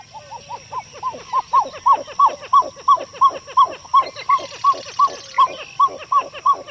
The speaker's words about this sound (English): Does this song evoke an old jungle movie? Well, actually, we're hearing the pied-billed grebe, a common resident bird of our freshwater lakes and ponds.